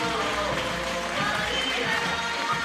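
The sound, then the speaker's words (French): An audience at a fashion show applauds steadily as two models are welcomed, a dense, even wash of clapping that holds at the same level for a few seconds, with faint crowd murmur mixed in. “On les applaudit s'il vous plaît.”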